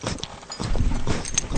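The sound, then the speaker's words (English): Light metallic clinking and jingling of the dog tags of a dog named Robin comes in short irregular bursts over soft rustling and low thumps, with no voices. “Her dog tags.”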